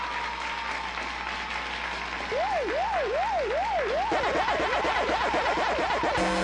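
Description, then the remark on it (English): A game show buzzer sounds over steady crowd cheering: a loud wailing tone that swoops up and down several times, then speeds into a quicker, yelping warble until the end. “There's the buzzer.”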